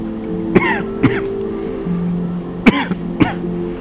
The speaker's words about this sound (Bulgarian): Какво е за тебе тази кашлица в този момент? Какво синхронично отразява в теб? Между мъжа и жената в теб. Почувствай, какво се събужда в теб? Какво ражда в теб тази кашлица